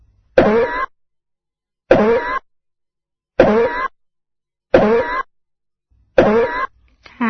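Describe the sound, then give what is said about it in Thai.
Five evenly spaced asthmatic coughs with wheezing, each a loud harsh burst lasting about half a second with a raspy, wheezy edge, separated by silent pauses, with no talking. “เป็นอาการไอจากโรคหอบหืดนะคะซึ่งการไอลักษณะนี้มักจะมีเสียงหวีดขณะไอนะคะดังเช่น”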